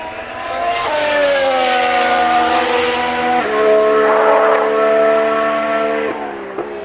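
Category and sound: vehicle, car engine roaring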